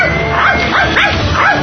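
A dog barks about four times in quick succession, loud and close, with short yelping barks over a constant background hum.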